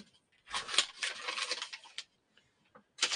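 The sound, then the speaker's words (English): Paper being crumpled up: a burst of dense, crackly rustling lasting over a second, then a few faint crinkles, and another loud crunch of paper starting at the end. No voices. “Crumple that one up.”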